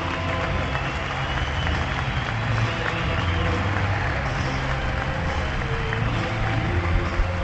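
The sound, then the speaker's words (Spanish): A large crowd gives a sustained ovation for tennis player David Ferrer as he walks onto the court, dense continuous clapping holding a steady, loud level throughout with a murmur of crowd voices woven in, never breaking or fading. “Así que esta es la ovación para David Ferrer, que entra ahora mismo en pista.”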